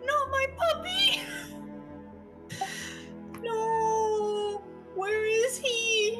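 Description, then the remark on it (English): A voice imitates a dog's quiet whimpering: several high, nasal whines, a couple of short ones, then a long steady whine and a rising, wavering one near the end. “Sort of the sound of a quiet whimper from a dog.”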